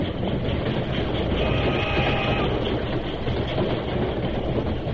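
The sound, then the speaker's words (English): A steam train rumbles steadily as it sweeps past, its heavy wheel noise mixed with a constant hiss of steam, loud and unbroken throughout with no voices. “His shout was lost in the rumbling of the wheels and the hissing of steam.”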